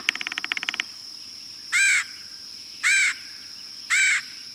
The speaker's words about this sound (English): One example is when they come from the building of nest boxes for birds such as the red-headed woodpecker.